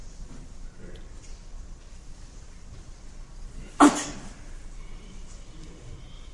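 A single loud, sharp sneeze, a voice imitating one, bursts out against a quiet hiss, with a short tail of breathy noise after it.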